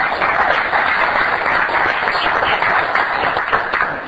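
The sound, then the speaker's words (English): A crowd in Port Hedland applauds steadily after a Tidy Towns award, dense overlapping clapping that stays loud and even for about four seconds with no talk over it. “How about the crowd's voice?”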